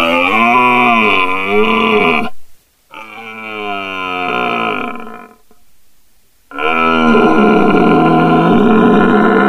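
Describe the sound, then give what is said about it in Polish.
A man imitates the rutting roar of an old red deer stag calling for hinds: three long, loud, guttural bellows with short pauses between, with no speech. “I przyjechał pan …, który naśladuje właśnie nawoływania jeleni. Odgłos starego byka szukającego łani.”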